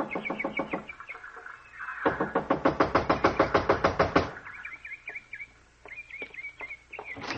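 Loud, rapid knocking on a door in quick bursts, a short volley followed by a longer hammering run of about twenty blows, while birds chirp and tweet throughout.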